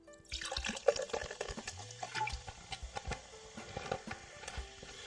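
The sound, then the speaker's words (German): A soft drink pours into a glass with a steady liquid stream and fizzy crackling, small clinks and bubbling bursts scattered through, no one speaking. “Ah, dieses Zeug, das muss endlich mal weggetrunken werden. Ich mag weder Cola noch Fanta noch Sprite.”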